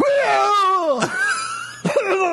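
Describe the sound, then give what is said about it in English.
A voice imitates a man vomiting, with drawn-out groaning retches that bend in pitch, broken by two sharp gagging bursts. It is loud and fills the whole clip with no other talk. “I'm like, he's puking his fucking pancreas out.”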